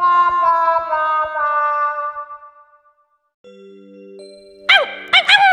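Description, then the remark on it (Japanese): A ringing chime fades out, then a sustained electronic tone plays before a dog being groomed and brushed lets out two or three quick, sharp barks at the end. “はい、ワンちゃん、綺麗になりましょうね。”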